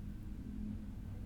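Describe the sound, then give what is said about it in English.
A motorcycle engine outside the window drones at a steady low pitch, a constant rumbling hum with a buzzy tone that holds at even loudness throughout, with no voices over it. “If you want to look out the window, you can, but I'm telling you, that's a motorcycle.”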